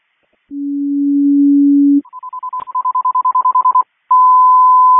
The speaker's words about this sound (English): CCOM, can I have a general alarm tone, crew station 1, change course, ambulance from Algonquin.